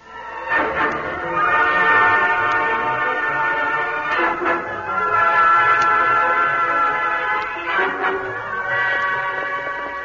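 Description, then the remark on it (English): A train passes on tracks through hills, its whistle sounding a long, loud, steady chord over a low rumble, broken by brief swells of noise around every four seconds. No voices. “The Lone Ranger and Tonto were riding through the hills overlooking the tracks at a leisurely pace when the train passed.”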